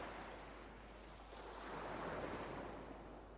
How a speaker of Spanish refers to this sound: Sientes el ruido del mar, las olas rompiendo cerca tuyo.